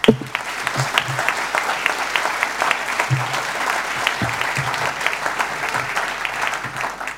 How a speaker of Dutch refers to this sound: En wij beginnen deze literatuur late night met de gast, Mensje van Keulen. Ik wil haar dolgraag naar voren vragen en uiteraard een applaus.